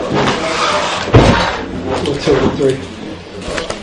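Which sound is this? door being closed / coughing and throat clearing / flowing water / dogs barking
door being closed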